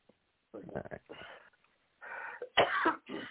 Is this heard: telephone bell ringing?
no